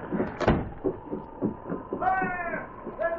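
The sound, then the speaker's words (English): A back door creaks open with a drawn-out, squeaky hinge groan, followed by a second short creak, coming after a stretch of muffled talking and shuffling. “All right, now come on, out the back door.”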